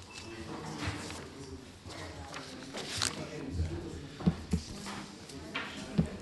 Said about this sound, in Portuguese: O assunto seguinte, portanto, e agora já podem abrir a porta.